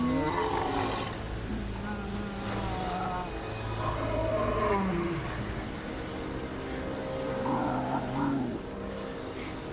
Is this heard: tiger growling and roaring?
yes